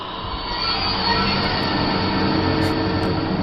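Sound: approaching train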